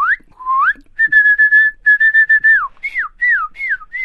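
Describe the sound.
A person whistles an imitation of a cardinal's call: clear rising slurs, then a quick run of short repeated notes, then several loud downward-sliding whistles, with no talking.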